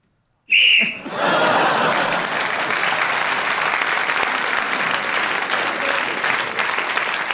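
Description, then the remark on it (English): A short, shrill whistle blast, blown by Ian Messiter to end a round of the panel show Just a Minute, followed at once by loud, sustained applause from a large audience that carries on steadily to the end. “he also gained the extra one for speaking as the whistle went”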